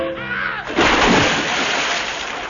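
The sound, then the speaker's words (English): A brief tonal, voice-like sound gives way to a loud rush of sea water, recorded at sea, that crashes in and keeps splashing, churning and sloshing steadily until the end. “There. Recorded at sea.”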